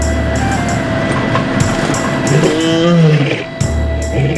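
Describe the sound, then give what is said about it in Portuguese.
A lion gives a deep, rumbling roar partway through, rising and falling over a second or so, as it walks toward a vehicle on safari, against a steady background hum like an idling vehicle. “O urro do leão é emocionante.”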